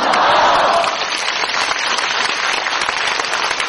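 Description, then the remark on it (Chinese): An audience at a Buddhist teaching applauds steadily, a dense wash of many hands clapping at once, loud and sustained throughout with no voices standing out. “鼓掌的人都是有希望的。”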